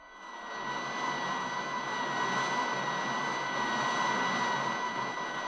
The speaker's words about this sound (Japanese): 数機のジェット機が直ちに基地を飛び立った